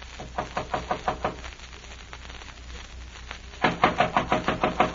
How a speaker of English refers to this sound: Wait, I'll knock.